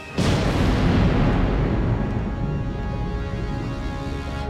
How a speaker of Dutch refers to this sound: Een enorme ontploffing volgde.